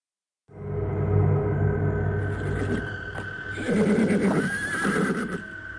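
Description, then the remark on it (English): Dwarf horses with hairy hooves, ridden into stiff winds, nicker and whinny over a steady low rumble, with scattered hoof stomps and shuffling throughout; the vocal calls swell and waver near the end. “Their dwarfened horses nickered and stomped their hairy hooves.”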